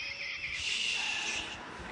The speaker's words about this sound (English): I'm going to see if y'all can recognize what this is. So close. It's a red-tailed hawk.